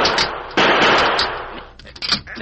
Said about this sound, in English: Sure, sure. Stand back. I'll shoot the lock.